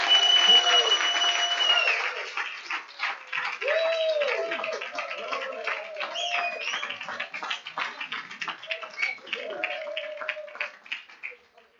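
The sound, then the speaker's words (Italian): An audience breaks into sustained applause for the Lord of creation (God): dense clapping that starts loud and slowly thins out over about ten seconds, with scattered voices and cheers mixed in. “Facciamo un applauso al Signore del creato.”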